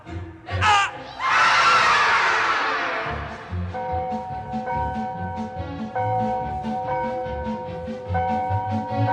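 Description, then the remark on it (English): A crowd of grammar school children shouts in a loud swell that eases into a steady, busy clamor, with sustained musical tones running underneath. “There's my grammar school, Bristol School.”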